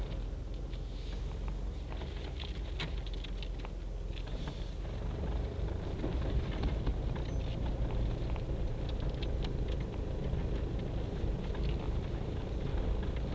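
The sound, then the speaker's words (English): A steady, rumbling wash of passing car traffic on a Monday fills the scene, low and continuous with faint clicks and swells as vehicles go by; no one speaks. “Lot of cars for a Monday.”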